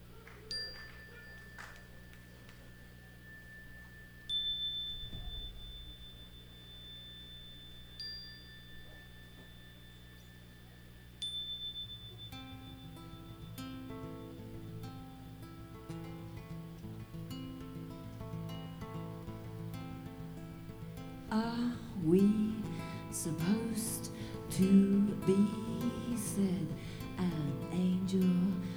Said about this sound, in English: we have a little interlude here now on guitar and energizing bell.